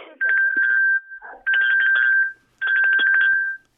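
A small handbell rings in three quick bursts of rapid clapper strikes, each about a second long with brief pauses between. The tone is bright, high and steady, and fairly loud.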